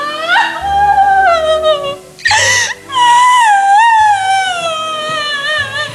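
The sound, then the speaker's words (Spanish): A woman wails and cries loudly, her voice sliding up and down in long, drawn-out moans broken by a sharp sobbing gasp partway through. “Y es ahí cuando ve... llorando a Doloricienta.”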